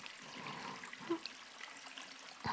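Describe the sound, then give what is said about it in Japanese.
Skin being scrubbed with shower oil: a steady, quiet wet swishing with a faint watery hiss, broken by two short squeaky chirps, with no voices. “ゴシゴシ鳴ってます。意外な音しますよね。”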